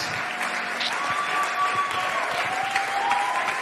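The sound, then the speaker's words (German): Sustained applause from a large, standing audience as a woman comes onto the stage fills the space, a dense, steady wash of clapping with a faint high tone gliding through the background. “Lass uns mal aufstehen und ihr einen fetten Applaus geben, während sie auf die Bühne kommt.”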